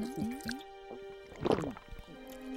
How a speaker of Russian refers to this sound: Шрек выливает жидкость себе в рот.